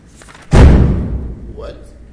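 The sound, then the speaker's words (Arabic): A door bangs shut with a single heavy thud partway through, followed by a short reverberant decay in a room where faint voices can be heard. “وش الباب مفتوح مال الطريق؟”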